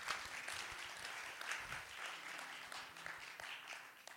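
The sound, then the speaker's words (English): A church crowd applauds news of its largest-ever miracle offering, dense overlapping claps forming a continuous wash of sound that holds at an even loudness for several seconds with no talking. “You can clap.”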